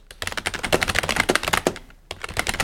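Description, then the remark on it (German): Fast, clattering keystrokes on a loud computer keyboard, a dense run of sharp clicks, with a brief pause near the end before the typing resumes. “Alter, ohne Witz, wie scheiße laut deine Tastatur ist.”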